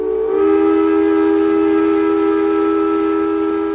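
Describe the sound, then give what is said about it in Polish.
A steam locomotive at a railway station sounds its whistle in one long, loud, steady blast that holds for several seconds, with a low rumbling hiss beneath it and no voices. “Nad budynkiem dworca kolejowego dostrzegła czarny dym wydobywający się z parowozu.”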